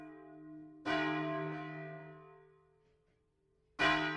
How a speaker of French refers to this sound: Jusqu'à récemment, le son des cloches marquait le rythme de la ville.